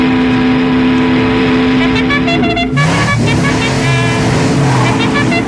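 Loud race car engines roar and rev continuously, their pitch shifting and climbing partway through, with a horn-like tone and a busy, dense mix of sound underneath.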